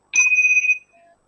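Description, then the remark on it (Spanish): A single meditation bell strike signalling the return of attention to the room at the end of a meditation, bright, with a clear high ring that holds briefly before fading into a soft, lower hum. No voices. “Y cuando volvamos a sentir el sonido de la campana, podemos regresar con la atención a la sala donde estemos.”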